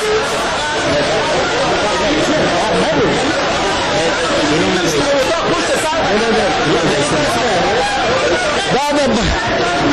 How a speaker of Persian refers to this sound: شیشه های مقابل من در دفتر رسانه های شورای ملی از هم پاشید و نمایندگان مردم که آن طرف همین شیشه قرار دارند با سر و صدا از مجلس بیرون می شتابند.